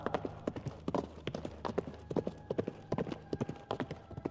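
Horse hooves clip-clop steadily on a hard surface, a quick, bouncy rhythm of sharp knocks, with faint background hum and no talking.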